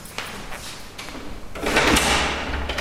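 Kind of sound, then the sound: household object, door opening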